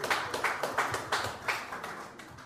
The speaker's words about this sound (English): Clap it up for him. Thank you.